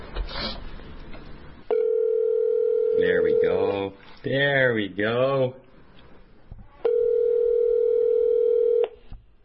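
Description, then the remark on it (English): A steady, droning telephone dial tone sounds twice, each lasting about two seconds, with a short burst of speech in between and faint handling noise at the start. “Can we get John on the phone now? Right now?”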